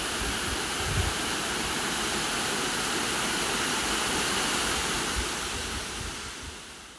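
A steady, dense roar of rushing water from a waterfall at Posforth Gill in the Valley of Desolation fills the whole recording, loud, easing off slightly toward the end. No voices are heard.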